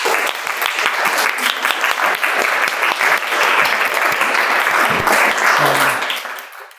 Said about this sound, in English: Please join with me in applauding the artists.